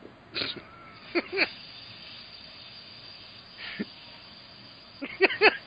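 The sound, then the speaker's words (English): Someone blows up a giant inflatable donut by mouth: short breathy hisses and puffs come in irregular bursts, some in quick pairs, with quiet pauses between and no talking. “So if you hear a strange hissing sound, that is me testing my lung capacity and blowing up this giant donut.”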